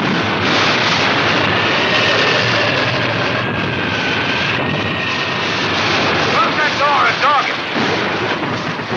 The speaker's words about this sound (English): We're in a typhoon.